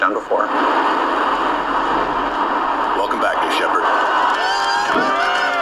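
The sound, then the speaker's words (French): A team in a rocket mission control room cheers and shouts together in a sustained burst of excited voices, with whoops and overlapping yells filling the whole stretch, celebrating a first-ever rocket landing. “Et après, c'était juste des cris, des bras en l'air, beaucoup d'excitation d'avoir été capable d'accomplir quelque chose que personne n'avait jamais fait auparavant.”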